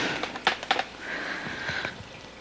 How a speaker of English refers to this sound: the background sound you may be hearing is my in-house fountain